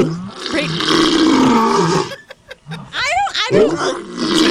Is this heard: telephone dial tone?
no